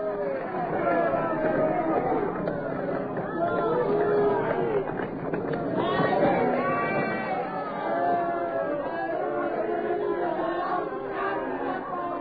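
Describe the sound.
A large crowd shouts and clamors deafeningly as Jesus is mercilessly whipped before them, many overlapping voices merging into a dense, steady roar that stays loud for the whole stretch.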